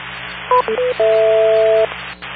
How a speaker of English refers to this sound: make sure you wait for the four beeps